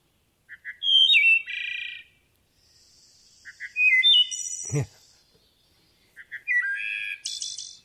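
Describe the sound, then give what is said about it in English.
A songbird sings clear, flute-like phrases, three in a row with short pauses between them. Each phrase rises into ringing, layered notes and ends in a higher trill. No one speaks. “So there's a beautiful song, but it also means it's probably not a successful nester for this year. But listen to it again. Eole, little flute-like.”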